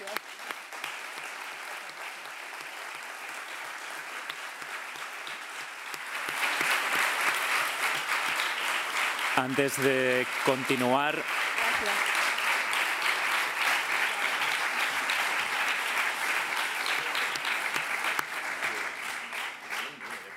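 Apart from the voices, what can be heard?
audience applause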